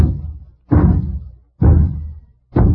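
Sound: knocking on a door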